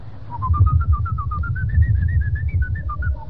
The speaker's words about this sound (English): How do I contact him? By whistling a highly skilled, mysterious secret tune.